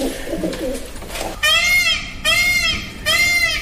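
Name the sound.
peacock call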